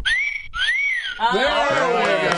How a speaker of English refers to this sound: It took you four times to have a sexist whistle. Very good.